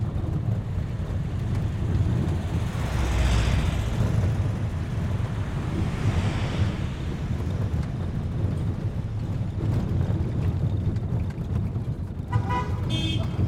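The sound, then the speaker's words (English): Trucks carrying people up to Camp Holmes by way of Baguio rumble along steadily with a loud, continuous low engine drone and road noise, swelling slightly at moments, and a brief horn toot sounds near the end. “How else are they going to get us up to Camp Holmes in these trucks?”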